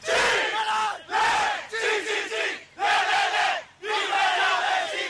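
A crowd of rescue workers cheers as one man leads them, in loud, rhythmic bursts, about five shouted chants in a row separated by brief pauses, many voices joined together with no individual speech.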